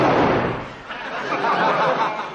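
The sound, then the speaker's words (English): A loud gunshot, fired at a nightingale in an oak tree in the countryside, bursts out right at the start, followed by a couple of seconds of dense, rough crackling noise that stays strong before easing off slightly. “You shot it? Oh, yeah, we always shoot nightingales, yeah, yeah.”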